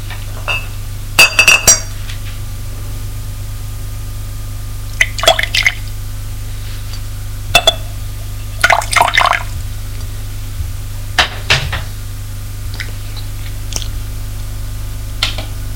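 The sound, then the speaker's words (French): Glass clinks and brief liquid sounds in a few scattered bursts as a bottle of bourbon taps a glass while pouring, over a steady low hum with no talking. “C'est un domestique qui vient avec un verre et la bouteille de bourbon.”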